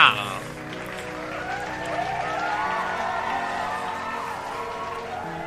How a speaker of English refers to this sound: Yeah, I gave myself my own applause.